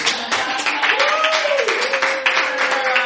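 Steady, dense applause from a crowd, with many hands clapping continuously at an even volume for the whole stretch, and a sustained vocal whoop or cheer rising out of it partway through.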